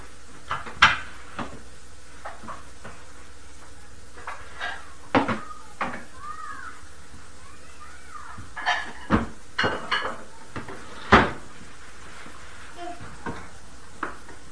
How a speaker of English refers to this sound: Are you piling up the books?